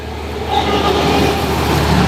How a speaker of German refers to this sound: So, ich würde jetzt sagen, klingt wie ein Schienenbus. Was war es denn wirklich? Wenn man genau ist, ist es tatsächlich zur Hälfte ein Schienenbus, weil dieser Gleismesszug ist eine Kombi aus einem ehemaligen Schienenbus und einem Messzug.